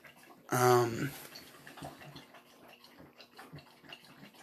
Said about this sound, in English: Hear my dog drinking? I don't know if that's picking up. Fucking fat bulldogs.